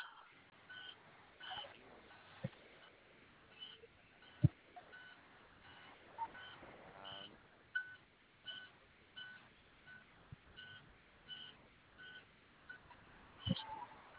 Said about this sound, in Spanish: Ahora sí que me paré a checar, que ahora sí que si escuchas, traigo una alarma prendida. Sí. ¿De tu es adentro? ¿Eh? ¿Es adentro de la unidad la alarma? Sí, compañero.